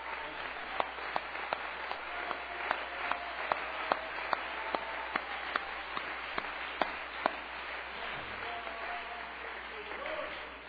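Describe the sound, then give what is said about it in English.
An audience applauds steadily in praise of the Lord, a dense wash of many hands clapping with a few sharper, louder claps standing out at a roughly even beat. The applause holds for about ten seconds. “Why don't we give the Lord a good hand clap of praise?”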